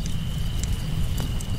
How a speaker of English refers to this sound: Can you hear that fire crackling?